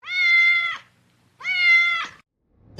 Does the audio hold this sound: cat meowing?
yes